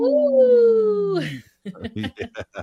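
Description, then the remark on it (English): A human voice imitates a wolf howl for Howling for Wolves: one long, loud, steady wail that sags slightly in pitch for about a second and a half, then drops off into a few quick spoken syllables. “We are Howling for Wolves right now.”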